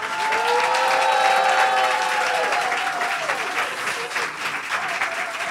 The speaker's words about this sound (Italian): applauso.